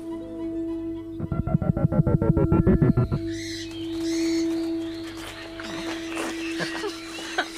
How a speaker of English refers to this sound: Listen. What? The birds. The ridiculous birds. Listen. Did you hear that? I heard a parrot.